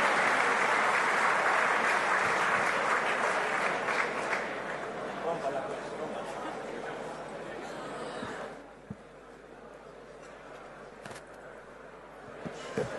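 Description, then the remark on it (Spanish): Sustained applause from a large audience for Spanish deputy Cayetana Álvarez de Toledo before her keynote speech, dense and steady at first, then gradually thinning out and fading until only scattered claps remain near the end. “de la diputada española Cayetana Álvarez de Toledo, a quien le pido un fuerte aplauso y a quien vamos a escuchar con mucha atención.”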